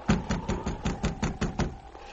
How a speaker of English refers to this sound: Oh, I guess you didn't hear the knock. It's too cold to wait. I'll go on in.